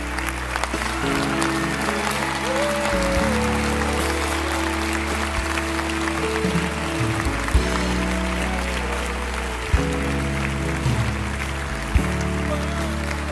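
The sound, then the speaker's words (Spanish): An audience at a church service of consecration to God applauds in a steady, dense patter that continues throughout, layered over loud sustained keyboard chords that shift every few seconds. “Él es ese aplauso, son sus hermanos.”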